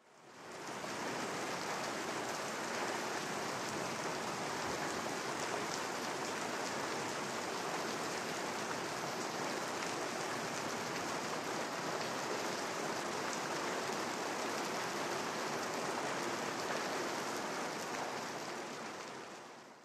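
Steady pattering rain, a dense continuous hiss of drops that stays even and fairly loud for the full stretch, with no voices or other sounds breaking through.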